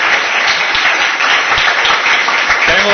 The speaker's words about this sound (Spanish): Venga, un aplauso.